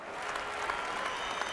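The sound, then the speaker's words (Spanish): Circus spectators clap steadily as the show begins, a dense wash of many hands applauding at an even, moderate loudness with no voices standing out. “Sofía y los espectadores comienzan a aplaudir.”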